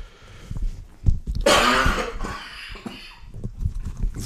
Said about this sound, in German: jetzt muss ich mal husten.